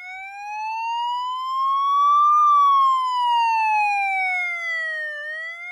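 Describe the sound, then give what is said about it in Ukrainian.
A fire siren, which sounds every first Wednesday of the month at noon, wails steadily, its pitch rising slowly then gliding back down in one long sweep, loud and clear with no voices over it. “Дівчата теді ходзели до першої класи, та не знали, же каждої першої среди точно на поладнє дує огньогасна сирена.”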